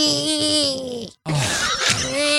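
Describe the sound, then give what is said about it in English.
A voice imitates loud snoring with two drawn-out, groaning, rasping snorts separated by a brief silent break. The sound is loud, with no other talk. “when she recorded me on her phone snoring. And it sounded like.”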